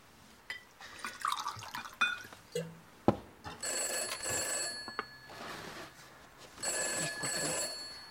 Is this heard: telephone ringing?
yes